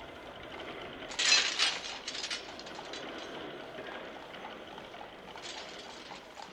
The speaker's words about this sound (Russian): Спустить подъемный мост.